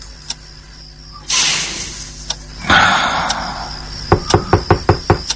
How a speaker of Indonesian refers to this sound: tiba-tiba aku merasa dia mengetuk pintu kamar. Mungkin kamar sebelah kali ya. Enggak, ini si pintu kamarku yang diketuk.